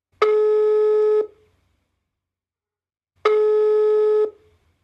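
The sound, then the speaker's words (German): Two steady, buzzy ringback tones from an outgoing phone call to a person in Himmelstadt, each about a second long with a pause between, sounding clear, like a line ringing on the other end. No one speaks. “wie früher Kurt Felix, mit einem Anruf bei einer Person, die Ähnliches macht.”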